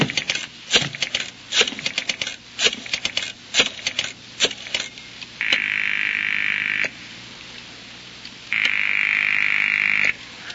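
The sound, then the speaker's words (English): A rapid run of sharp clicks gives way to two long, buzzing telephone rings separated by a pause of silence, with no one picking up and no voices. “I'll bet you that's the only phone in the whole city that's ringing.”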